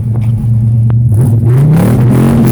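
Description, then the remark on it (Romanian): An American car's engine idles with a deep, steady rumble, then revs up, its pitch rising and growing louder toward the end. It is loud, and no one speaks. “Faceți o accelerație, mă duc în spate.”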